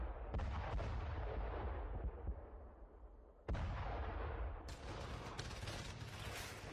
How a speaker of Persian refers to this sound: اما صبحگاه هفتم ثور سال 1357 هجری خورشیدی، مردم کابل با صدای توپ و غرش تانک ها از خواب بیدار شدند.